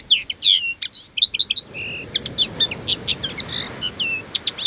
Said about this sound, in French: C'est un sifflet pour appeler les oiseaux. Moi aussi, j'en ai un.